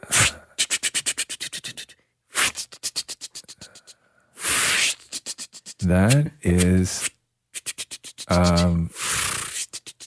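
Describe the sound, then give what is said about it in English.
A voice imitates a rotary phone being dialed: several bursts of rapid, evenly spaced clicks separated by short pauses, mixed with breathy hisses and a couple of brief hummed whirring tones. “Dialing a phone number on a rotary phone.”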